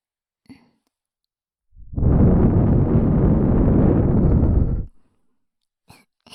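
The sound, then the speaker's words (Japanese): A long, steady breath is blown straight into the ear as a finishing step after ear cleaning, a broad rushing whoosh lasting about three seconds, with small soft clicks before and after it. “また耳風しちゃいました。”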